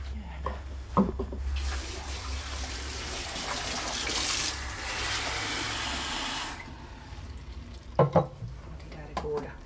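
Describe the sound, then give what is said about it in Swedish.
A tap runs steadily for about five seconds as someone fetches water for themselves, a bright hissing gush, with a few clinks and knocks of dishes before it starts and after it stops. “Så, jag hämtar vatten till mig, vill du ha?”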